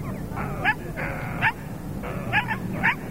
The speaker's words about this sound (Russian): Хороший, хороший пес. Сама в страх взглянуть, а псу всю корку скормила.